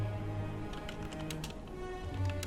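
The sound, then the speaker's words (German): Scattered bursts of quick key clicks from someone typing the words "Start Ironclad" on a computer keyboard, fairly quiet, over a steady tonal background of low music or hum. “Außer ich kann nicht tippen.”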